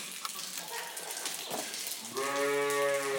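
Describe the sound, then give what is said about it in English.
A Suffolk sheep, penned in with Trudy, lets out a loud, drawn-out bleat, rising out of rustling background noise in the final second, a single sustained call. “Now that cool there is a Suffolk sheep who's in with Trudy.”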